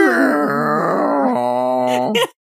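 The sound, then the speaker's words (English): A wheezy accordion drone whines on for about two seconds as the accordion slowly shrinks in on itself, its reedy pitch wavering and dipping in small steps, then sputters out in a few breathy puffs of air. “that the accordion like slowly shrinks in on itself, and you hear this little whine.”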